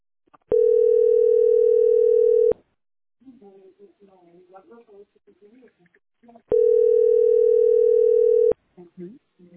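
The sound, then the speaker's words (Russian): A steady electronic phone ringing tone of an incoming call sounds twice, each burst about two seconds long and loud, with a person talking in the gap between the rings. “Мне еще и подряд кто-то звонит.”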